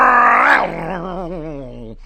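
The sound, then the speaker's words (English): A voice imitates a roaring motorcycle engine: one loud, rough burst that drops into a lower, wobbling, sputtering drone for about two seconds before cutting off abruptly. “The tooth fairy roared up on a large motorcycle.”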